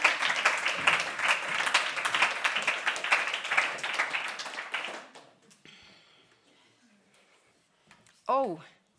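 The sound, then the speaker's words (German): An audience applauds the guests of a show with dense, steady clapping for about five seconds, then it dies away into quiet before a brief voice cuts in at the end. “Bitte einen Applaus für unsere Gäste.”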